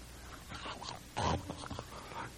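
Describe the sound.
A person imitates a dog slurping and slobbering as it tries to dig the marrow out of a bone: wet smacking and snorting mouth noises, with one louder, gurgling slurp in the middle.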